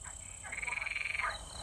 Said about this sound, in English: And then Eva did just exactly what either you or I would have done if we had heard a great green toad talking to us.